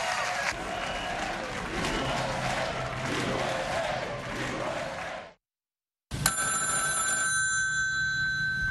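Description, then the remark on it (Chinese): A loud crowd cheers and applauds, then cuts to a brief silence before a telephone starts ringing with a steady, bright electronic tone that continues to the end, marking the congratulatory call from Tsai Ing-wen that Donald Trump received on 2 December 2016. “2016年12月2号，特朗普接获蔡英文的祝贺电话。”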